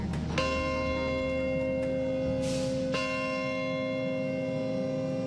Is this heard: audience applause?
no